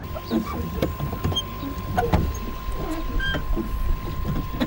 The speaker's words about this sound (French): Et là on entend le doux clapotis des vagues et on entend surtout ces grésillements dont on parlait juste à l'instant. Ça c'est un enregistrement d'ambiance, toute sobre, toute simple.